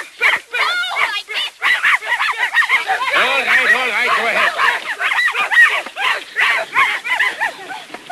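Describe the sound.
A very young boy, playing a game, imitates a dog with a quick string of loud, yappy barks and yelps, overlapping and continuing almost without pause for several seconds.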